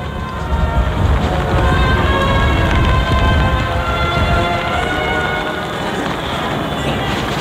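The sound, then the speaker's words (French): Steady rain pours down amid a strong, strengthening wind over a silent crowd at a funeral procession on the Place de la République, a dense, continuous hiss that stays loud and even throughout, with a faint droning hum running underneath and no voices. “Cependant que le vent se lève avec plus de violence que tout à l'heure et que la pluie continue.”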